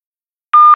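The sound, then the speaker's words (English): A single short, loud electronic beep from a company answering machine, a steady mid-pitched tone lasting about a quarter second after silence, with no voices. “A message on a company answer phone.”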